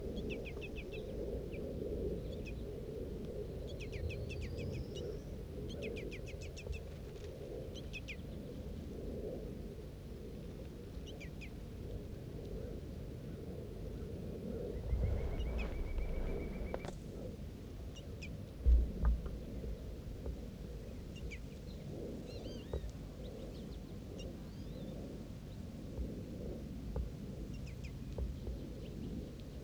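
Scattered, faint high-pitched bird chirps from a female bird and a juvenile in a tree, the juvenile being fed by the female, sound over a steady low rumble, with a brief sustained whistling note around the middle and a couple of soft low thumps.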